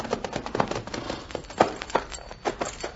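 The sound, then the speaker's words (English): Horse hooves clip-clop in a steady, uneven rhythm, a string of moderately loud hoofbeats with no voices over them, from a saddled horse by a clump of mesquite. “There's a horse over by that clump of mesquite.”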